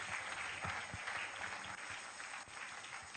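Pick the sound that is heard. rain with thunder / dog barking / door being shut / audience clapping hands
audience clapping hands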